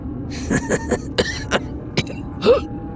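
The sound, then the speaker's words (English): A few short, breathy chuckle pulses break into a series of rough, strained coughs, fairly loud, ending in one heavier cough. No one speaks. “chuckled, but it turned into a cough and a wince.”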